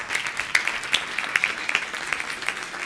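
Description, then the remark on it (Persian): A crowd applauds steadily for a few seconds, dense overlapping claps with a few sharper individual claps standing out, moderately loud, with no talking. “قشنگ تشویق برید.”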